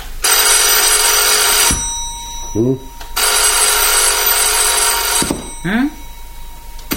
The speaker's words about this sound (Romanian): Ce? N-auzi că sună telefonul.